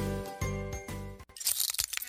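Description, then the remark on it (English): Glass cracking and chipping: a few ringing, bell-like strikes give way to a burst of bright, crisp crackles and tinkling fragments that sputter irregularly, fairly loud, with no voices. “Uh-oh, sounds like you need some new glass.”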